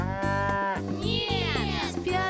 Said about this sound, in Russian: Корова.